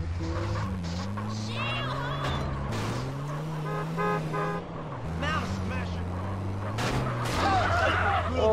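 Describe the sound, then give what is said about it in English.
A car horn blares in long, nearly continuous honks over the rumble of a moving car driven by a blind person who cannot drive, with warbling, squawking voices layered on top, loud throughout. “I really don't know to drive a car because of my blindness.”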